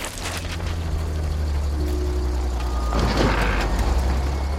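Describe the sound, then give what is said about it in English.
A large truck filled with ripe tomatoes rumbles steadily, its deep engine drone filling the scene while intermittent electronic reversing beeps sound over it. No one speaks. “Rex plummets to Earth without a parachute and lands in a truck filled with ripe tomatoes.”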